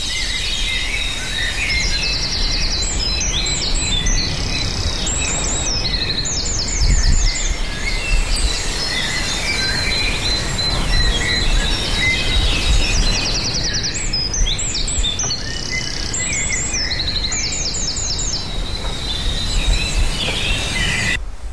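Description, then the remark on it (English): A coal tit sings bursts of quick, high, repeated notes in a bright rhythmic pattern from a tree, pausing between phrases, over a steady outdoor hiss during an early-morning dawn chorus walk. No one speaks. “you might get some more of that bird song just before we move on.”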